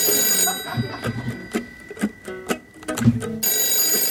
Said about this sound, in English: When you call your friends, does the phone ring and ring? What if they're not home? Let Ahoy Hoy keep calling for you.